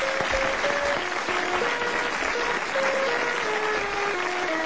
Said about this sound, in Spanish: Impresionante ovación de gala, decíamos, para a interpretación da clase de sexto de primaria de Mais Berberechos, que acaba de interpretar a obra de teatro preescolar Chega o 2009.